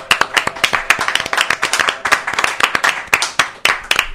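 An audience at a bookstore event applauds a guest enthusiastically, many hands clapping in a dense, irregular burst that stays loud and steady for the whole stretch, full, with no voices over it.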